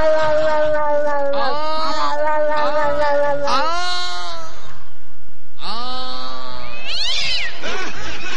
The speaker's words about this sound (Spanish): Me gustó. Era un gato en celo.